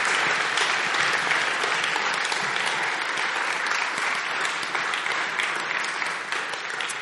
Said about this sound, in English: And can we just congratulate, because there's a lot of our young people who've done exams this summer, and they've all done really, really well, and they're going on to new things. So let's just give them a round of applause for that.